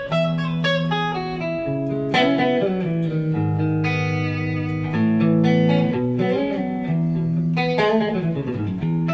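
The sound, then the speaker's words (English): A clean, glassy electric guitar tone from the guitar's middle pickup, through an amp set at a very low volume, rings out in flowing chords and single notes, bright and shimmering with a slight effect sheen, played steadily at a moderate volume with no voices. “But then the super glass is the middle pickup, which is this.”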